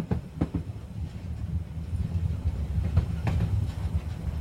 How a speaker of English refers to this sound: It's so nice. And I love a romantic train ride.